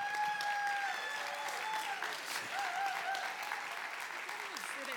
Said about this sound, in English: most people in the room already know who you are. That's why they're applauding and everything.